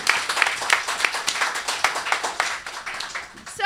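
A crowd applauds steadily, a dense patter of many hands clapping at fairly loud, even volume, with a brief bright tone cutting in at the very end.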